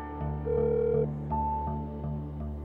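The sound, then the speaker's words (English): A phone call ringing on the line before it is answered by a son, steady electronic tones pulsing in a regular rhythm at a moderate, even level, with no voices present. “I make the call, but the person who picks up the phone, unexpectedly, is not Ken Daphne, but one of his and Terry's children, a son.”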